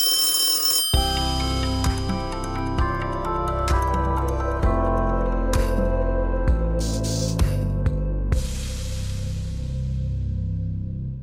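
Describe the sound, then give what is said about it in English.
A telephone rings for an incoming caller's call with a loud, steady electronic ringtone melody, repeating its tonal pattern for about eleven seconds with no voices. “In not answering this phone call.”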